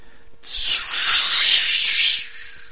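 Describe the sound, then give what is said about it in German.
A shooting star hisses through the air: a bright, airy whoosh that bursts in suddenly, holds steady and loud for nearly two seconds, then tapers away, with no voices. “Zischte sie durch die Luft.”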